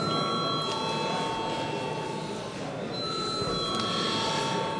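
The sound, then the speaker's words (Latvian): A parliament chamber bell rings continuously and loudly before a vote on a bill in its second reading, a steady metallic electric ring with a buzzing rattle and sustained high tones, no pauses or talking over it. “Paldies, lūdzu zvanu.”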